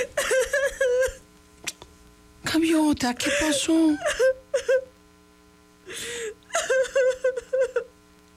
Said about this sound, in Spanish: ¿Qué? ¿Estás llorando